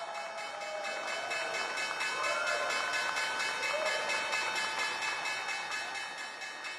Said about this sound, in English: So there we have the opening bell on this Tuesday.